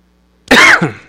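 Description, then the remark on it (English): A single loud cough bursts out after a moment of near silence, a harsh rasping hack followed by a shorter second push that trails off, with no talking around it. “It's a cough, not a sneeze.”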